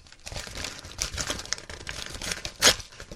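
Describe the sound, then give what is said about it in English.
An empty paper Dunkin' Donuts bag being handled and crinkled, with a steady run of dry rustles and crackles and one louder crunch near the end. No one speaks. “This is a Dunkin' Donuts bag. It's the bag that Dunkin' Donuts came in.”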